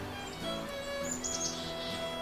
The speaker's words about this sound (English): So when you hear chickadees in a flock, it often pays to look at the flock a little more carefully. You may see other birds.